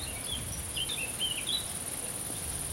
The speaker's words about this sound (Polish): Co to za ptak śpiewa? Poczekajcie. I co słyszysz? Świerszcza. I ptaka albo wróbla. I szelest wiatru.